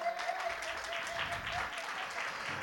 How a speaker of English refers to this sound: Happy Father's Day to all the guys. Ladies, can we give the guys a big hand clap?